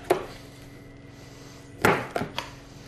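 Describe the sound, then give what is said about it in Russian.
A knife chops fish into large pieces on a board for a Balkan fish soup: one sharp thud, a pause, then a quick cluster of three chops, each a crisp, solid knock with a short tail. No one speaks. “Режем рыбу крупными кусками, только для того, чтобы они удобнее помещались в кастрюлю.”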